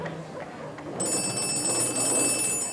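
telephone ringing

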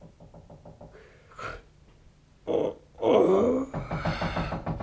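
knocking on a door

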